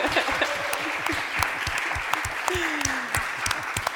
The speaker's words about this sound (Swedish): Vi kan ge en applåd till våra båda deltagare.